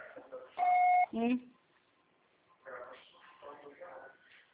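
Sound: voicemail recording beep tone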